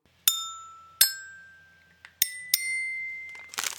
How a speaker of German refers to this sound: Ah, genau, Klingelton.